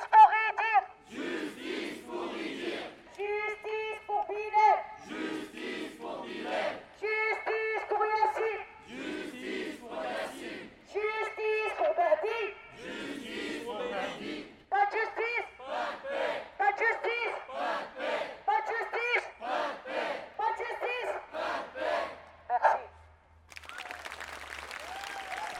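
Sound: protest crowd chanting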